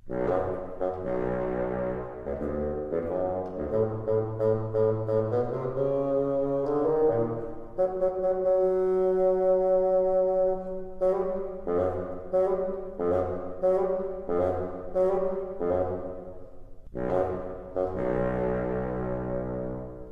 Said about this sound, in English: Peter's grandfather is represented by the bassoon. Can you hear his stern voice?